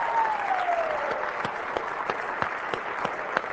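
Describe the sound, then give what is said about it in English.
An audience at Union University claps steadily in sustained applause for standing prospective students, family members and friends, a dense wash of many hands with a few sharper individual claps standing out, fairly loud and continuous throughout. “Let's give them a good round of applause.”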